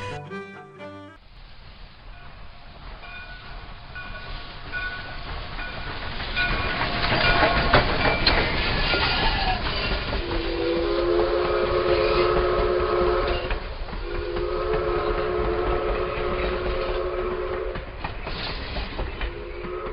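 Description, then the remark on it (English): A train rumbles past with steady rolling noise and clatter, while a loud, sustained whistle sounds in long blasts near the end, rising over the passing cars. “Dear listeners, if you love trains, and who doesn't? This conversation is for you.”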